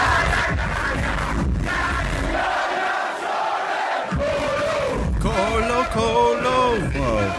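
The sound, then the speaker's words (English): A loud, constant roar from a live gig crowd, captured by a fan on a harsh, low-quality phone recording, with strained shouts and chanting voices rising out of the din in the last few seconds. “All we have is a quite a low quality phone clip from the gig taken by a fan.”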